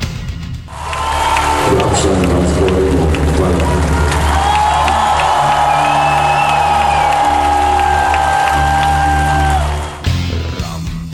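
A crowd of over 20,000 at Belgrade Arena roars with cheering, whoops and applause at the end of a concert, loud and sustained for about nine seconds, with shrill whistles rising above the din before it abruptly cuts off.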